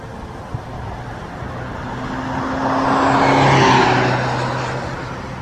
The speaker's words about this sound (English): A Toyota with the Toyota truck with the cap on the back that went speeding by. White Toyota.